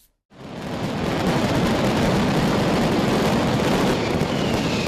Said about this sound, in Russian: В Валенсии прошел ежегодный пятидневный фестиваль огня. На местном диалекте испанского он называется «Лас Фалас». Фестиваль представляет собой 5 шумных дней фейерверков, празднеств и процессий в честь святого Иосифа,